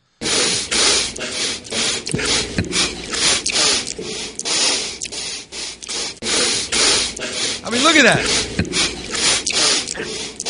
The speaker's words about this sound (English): Here's all the different sniffles put together, which is interesting. These are just all the, you know.